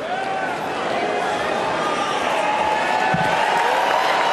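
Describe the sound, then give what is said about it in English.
A large convention crowd roars and cheers steadily and loudly as Baby Dog, the bulldog of West Virginia governor Jim Justice, is brought out, with scattered whistles and shouts rising over the dense wash of voices for the whole stretch. “Delegates are hearing from a lot of speakers tonight, but someone who said nothing may have gotten the biggest cheer so far.”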